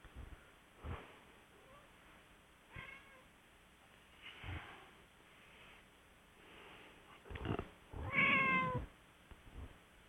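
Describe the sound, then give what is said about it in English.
A cat meows loudly and drawn-out near the end, after a few quieter scattered noises and soft thumps; the cry is clear, with no talking. “I hear a kitty cat.”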